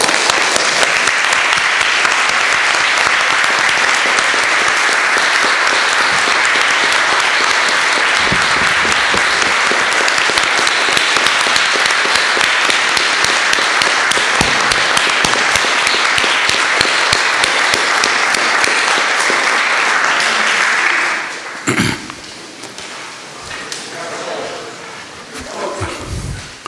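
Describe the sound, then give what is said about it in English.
Sustained, loud applause as the Academic Senate of Queens College rises to honor a history professor for years of dedicated service, dense clapping steady for about twenty seconds before abruptly tapering off into scattered claps and murmuring voices. “and let it finally be resolved that the Academic Senate rise and express its appreciation with a round of applause.”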